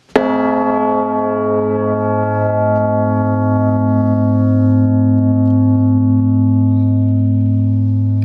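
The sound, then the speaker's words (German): A large cast bell is struck once by its clapper, then its deep, rich tone hums on with layered overtones of fifths, thirds and primes, sustaining steadily for several seconds without fading away. No voices are heard. “Man merkt, wie die Quinten, Terzen, Primen und so weiter sich in dieser Glocke entfalten.”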